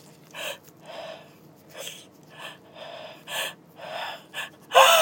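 A run of quick, breathy gasping inhales builds up in uneven bursts, ending in a sudden loud, hissing sneeze. No one talks.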